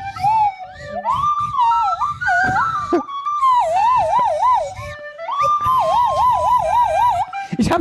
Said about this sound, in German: Ich würde gerne, wenn wir schon bei Musik sind, jetzt nochmal ganz kurz die Nasenflöte hören. Ganz kurz, einfach mal einen Ton.